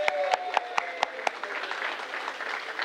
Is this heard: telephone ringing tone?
no